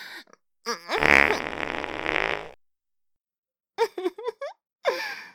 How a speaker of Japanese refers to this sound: おなら、出ちゃったわ。ほら、匂って匂って。どうかしら。今日の先生のおならは、お鼻の曲がっちゃいそうな匂いでしょ？